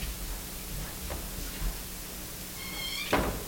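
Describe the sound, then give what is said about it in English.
A door swings with a short, high creak and then shuts with a soft knock near the end, fairly quiet over a steady background hiss. “We have a door.”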